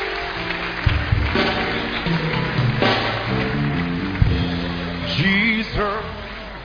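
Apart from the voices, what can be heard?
audience clapping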